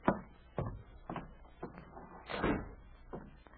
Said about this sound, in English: Would you mind shutting the door while I talk to you? Well, of course I will.